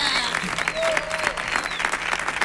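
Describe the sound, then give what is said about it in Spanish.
Sustained audience applause for a singer, a dense steady patter of many hands clapping at a fairly loud, even level, with faint whistles or cheers rising briefly above it. “Recibí este aplauso que está recibiendo maravillosamente.”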